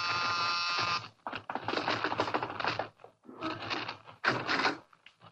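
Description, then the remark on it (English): The doorbell at Mr. Harris's house gives one steady, buzzing ring lasting about a second, followed by bursts of loud, rapid clattering and rustling with short pauses between them. “Okay, I'll ring the bell and then we'll all hide.”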